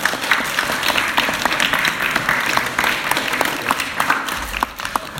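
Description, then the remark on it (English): An audience claps steadily for about five seconds for the children who helped with a sandwich, a dense, continuous patter of many hands at an even, fairly loud level, with no voices standing out. “Can we give them a clap?”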